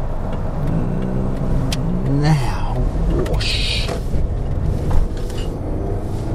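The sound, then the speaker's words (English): The reasonably powerful engine of a Tarraga, a gas guzzler with an 80-litre tank, rumbles steadily from inside the vehicle while driving, a continuous low drone with a slight rise in revs, as people talk over it. “You do, of course, but it's just in this Tarraga, reasonably powerful engine, a gas guzzler.”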